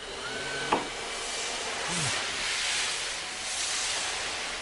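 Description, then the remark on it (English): A vacuum cleaner runs with a steady, broad whooshing roar that swells and eases in gentle waves, broken early by a single sharp click. “Vacuum on.”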